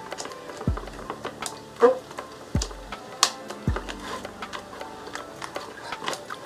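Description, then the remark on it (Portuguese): Clicks, taps and a few soft thuds as parts of an assembled electric fan are fastened together, irregular and fairly quiet, with no talking. “O ventilador tá montado, só terminar de prender aqui.”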